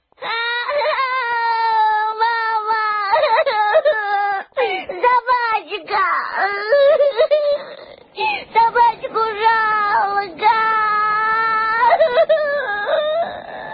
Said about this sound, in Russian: Но публика все молчала, лишь легкий шепоток проносился по рядам, а через полминуты с верхнего ряда донесся отчаянный детский плач.